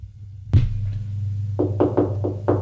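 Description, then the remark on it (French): Five quick, evenly spaced knocks on a door, dull and fairly loud, come after a single thud, with a steady low hum underneath and no voices. “On frappe à la porte.”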